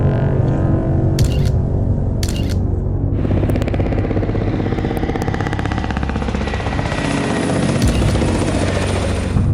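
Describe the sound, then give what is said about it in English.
Black helicopters fly very close over a house, their rotors roaring loudly and thumping in a rapid steady chop that fills the whole recording, with sharp clicking bursts early on and no voices. “Not long after releasing his images, the infamous black helicopters appeared, flying very close to his house.”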